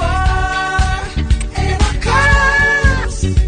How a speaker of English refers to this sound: when they were inserting screaming goats into … songs